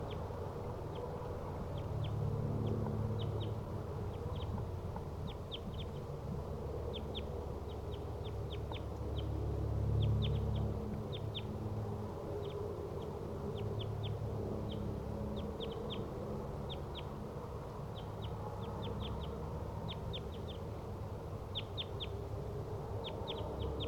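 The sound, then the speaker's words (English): Wild crossbills, two birds each in a different tree around a decoy cage about 20 to 30 meters from it, call from the treetops with sharp, high chip notes, often in quick pairs or short bursts, repeating irregularly throughout over a steady low rumble. “Wild crossbills are in the treetops, each in a different tree, surrounding the decoy cage, each about 20 to 30 meters away from the cage.”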